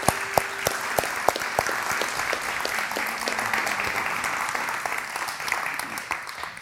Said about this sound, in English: But let's give him a nice round of applause as he comes forward.